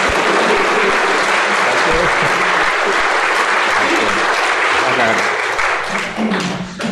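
An audience at a meeting breaks into loud, dense applause for an invited speaker, a steady wash of many hands clapping that holds for several seconds before thinning out slightly at the very end.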